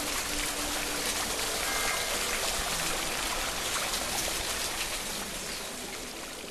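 Shower water pours down in a steady, dense hiss and patter, continuous, easing slightly toward the end. No voices are heard.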